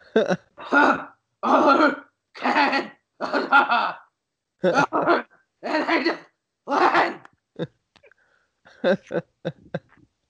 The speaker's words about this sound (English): Why is that called the Canadian cough? Because it sounds an awful lot like the Canadian national anthem.